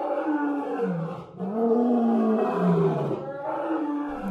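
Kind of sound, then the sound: animal, male lion roaring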